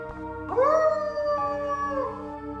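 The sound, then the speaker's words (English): A pack of wolves howls together, long overlapping cries that swoop upward and then hold steady for a couple of seconds, fairly loud, with no talking. “These are a pack of wolves.”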